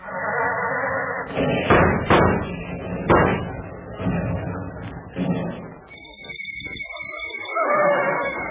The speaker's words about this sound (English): See, that motor hasn't been sounding right. Let's try it again.